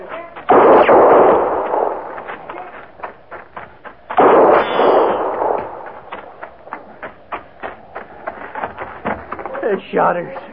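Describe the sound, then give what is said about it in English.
Two heavy, booming gunshots ring out several seconds apart, each trailing off in a long rumbling echo, followed by a scattered run of quicker, lighter shots popping irregularly. “No reason for them shooting a horse.”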